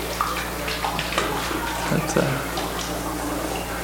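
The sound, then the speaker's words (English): Water sloshes and gurgles inside a shaken container, draining to the bottom with a steady, continuous churning and a few brief splashy bursts, moderately loud. “Now shake that system and you'll get this dissipative event happening. And when all the water is in the bottom, then you have a stable equilibrium for that system.”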